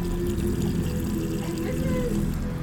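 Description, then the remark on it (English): Red-coloured water runs steadily from a faucet in a bathroom with blood on the wall, a continuous splashing pour with a low, full rumble, fairly loud throughout without pause. “We have a faucet. Oh, nice red water in the faucet.”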